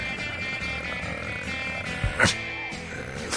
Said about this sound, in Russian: Уберите эту собаку! Уйди отсюда! Уйди!